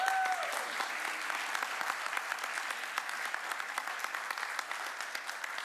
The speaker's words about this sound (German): Dankeschön an das Lobpreisteam. Ich finde, ihr habt einen Applaus verdient.